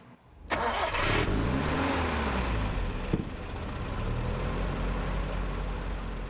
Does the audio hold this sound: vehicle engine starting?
yes